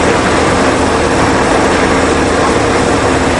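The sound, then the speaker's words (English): A loud train roars past in a dense, continuous wall of rumbling and hissing noise that stays steady and overwhelming throughout, with no voices. “And there was the train.”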